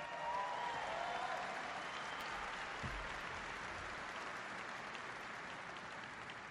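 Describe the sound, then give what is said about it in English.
Sustained applause from a large audience including military service members, given for the civilians working alongside them, a dense, even wash of clapping that holds steady at full strength for several seconds without any voices breaking through. “So give them a big round of applause.”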